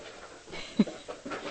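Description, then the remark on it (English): A dog pants in quick, breathy bursts as it jumps at the speaker, with a soft bump partway through; fairly quiet overall and no talking. “Uh-oh, what dog attacking me?”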